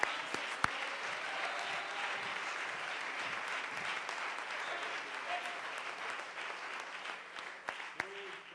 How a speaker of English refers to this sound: Let's clap our hands.